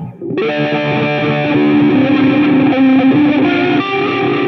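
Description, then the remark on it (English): Heavily distorted electric guitar with delay, entering after a brief quiet moment and sustaining thick, buzzy held notes that shift in pitch, loud, with no voices. “It's probably just this kind of, it's this, like just super distorted with a delay and just...”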